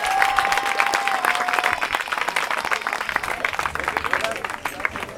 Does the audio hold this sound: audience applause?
yes